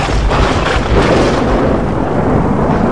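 A thunderstorm rages with loud, deep rumbling thunder rolling continuously, heavy low-end booms swelling and fading over a steady wash of rain and wind noise, powerful.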